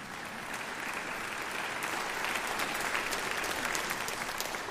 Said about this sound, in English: Yeah, go ahead and clap.